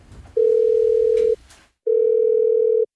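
Two long, steady ringback tones, each about a second, separated by a short pause, with faint background noise under the first. It's the steady hum of an outgoing phone call waiting to connect.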